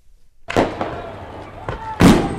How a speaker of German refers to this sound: Der Ravel-Club und der Vogelherd-Club. Wieso die beiden Vereine das grösste Feuerwerk der Schweiz veranstalten und wieso dass die beiden Clubs neuerdings über eine Fusion nachdenken, das alles gibt es im Beitrag von Marco Jacki.